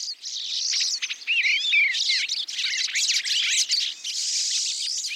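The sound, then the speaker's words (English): Several small birds visiting a backyard feeder chatter and call at once, a dense, busy mix of high chirps, twitters and quick sliding whistles that carries on without pause, with no voices. “The sights and sounds of birds visiting a feeder in the backyard or a local park can brighten our days during the darker months of the year.”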